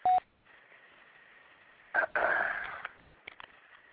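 A phone number is dialed: a short electronic tone sounds, followed by a steady faint hum, a brief burst of louder rough noise, and then a few quick clicks. No one speaks.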